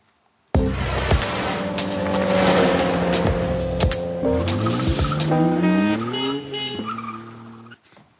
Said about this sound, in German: Ja, der Wagen ist vorgefahren